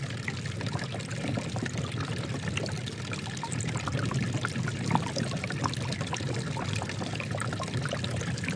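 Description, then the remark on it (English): A thin stream of spring water trickles and splashes steadily into a pool or basin, flowing very slowly, a constant pouring sound with no voices present. “it takes ages because the water is very slowly, only flows very slowly”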